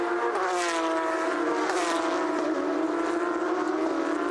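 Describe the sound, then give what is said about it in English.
Racing car engines roar steadily in a loud, sustained drone full of rich harmonics, the pitch wavering slightly as they drive past, with brief bursts of rasp. No one speaks. “My, those cars sound good, don't they?”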